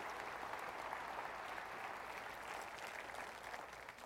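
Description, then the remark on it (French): An audience applauds loudly, a dense, steady wash of many hands clapping that holds at full strength for about four seconds with no speech over it. “Que ceux qui le croient applaudissent fort, c'est la vérité ce matin.”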